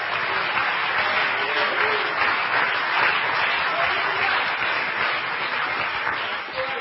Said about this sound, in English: Go ahead and clap your hands in that.